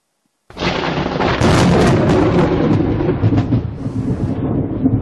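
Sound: thunder sound effect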